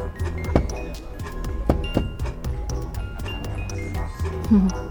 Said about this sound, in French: Petit manège enchanté sur la place de l'horloge.